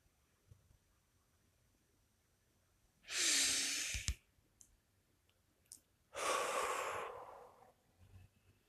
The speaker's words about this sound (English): I am breathing. There is no stress in me. There is no stress in my body.